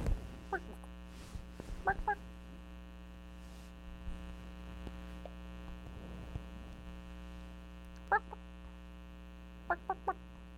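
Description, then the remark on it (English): A chicken clucks in short, sharp bursts, a couple of quick clucks near the start and a few more toward the end, over a steady electrical hum with no one talking. “Chicken. Buck, buck. Buck, buck, buck.”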